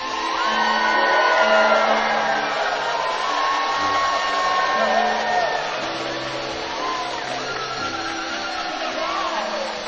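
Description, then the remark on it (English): A large church audience cheers and yells for God in a sustained, dense roar, with whoops and shouts rising out of the crowd noise and staying loud for the full stretch. “So feel free to join, to rise your feet, to fist pump, to yell out, for the God in whose hands are the depths of the earth and the height of the mountains.”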